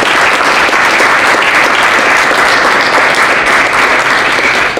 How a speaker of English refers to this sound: if we could give them all a round of applause.